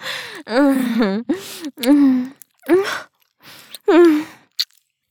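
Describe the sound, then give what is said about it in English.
A voice lets out about half a dozen sharp, breathy gasps and heavy pants in quick succession, fairly loud, with brief pauses between them and no words spoken. “Can you feel my chest expanding against your dick whenever I take a sharp breath?”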